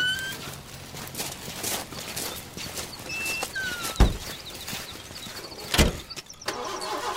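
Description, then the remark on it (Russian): A car engine again tries and fails to start, sputtering and coughing with irregular clunks and a couple of louder thumps, mixed with squeaky cartoonish whistles. No one speaks. “Ну вот, опять машина не заводится.”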